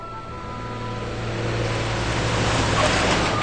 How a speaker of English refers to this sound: Behind him, the truck carrying the sign speeds down the road.